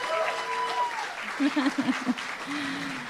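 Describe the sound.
A crowd applauds and cheers loudly for a few seconds as Avi Lewis is introduced, steady clapping with whoops and raised voices rising through it.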